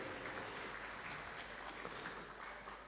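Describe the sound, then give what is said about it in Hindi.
An audience at a stage performance event claps steadily for themselves in dense, continuous applause, many hands blending into a broad wash of sound that holds at an even level from start to finish. “और यहां जितने भी बैठे हैं मैं बता दूं ये सब सतयुग में जाने वाले हैं तो अपने लिए जोरदार तालियां।”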